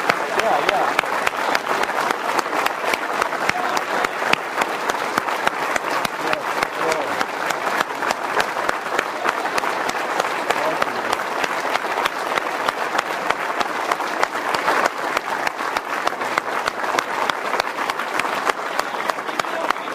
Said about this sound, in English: Will you join me in just putting your hands together? Can we give applause to Uncle Lynn? Yeah.